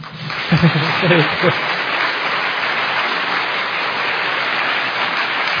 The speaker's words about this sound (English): there's actually one thing which I'm going to mention because a few people clapped and there was just no energy in the clapping. I was taught if you're going to do something, you give it everything you've got. So if you're going to clap, go for it.